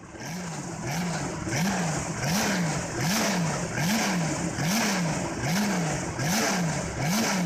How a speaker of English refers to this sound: As I previously mentioned, it was powered by a longitudinally mounted V12 engine. This engine would be fed with 6 Weber carburetors and pushed out right around 310 horsepower.